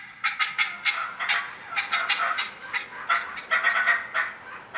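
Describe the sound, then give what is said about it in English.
A turkey call mimics a hen turkey, played onstage for judges behind a screen, sounding a steady run of sharp, raspy yelps and clucks in quick, uneven bursts, loud with no voices. “The judges that are behind that screen, you know, they spent hours and hours in the woods, and they know what real hen turkeys sound like, and that's what they're listening for.”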